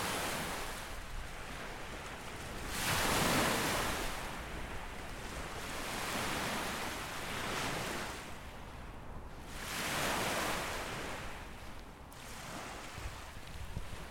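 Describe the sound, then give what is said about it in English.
Waves wash onto a lakeshore in slow, rolling surges, each swell rising into a broad hiss and then receding, with a steady low rumble of water and faint wind between them. “Come to rest on the banks of a lake that could be a sea, were it not for a lack of salt.”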